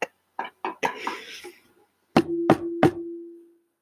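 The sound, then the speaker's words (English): Three firm knocks on a hollow fake wood surface, evenly spaced and ringing briefly, come after a few scattered taps and some muffled background noise. “Knock on wood, bro.”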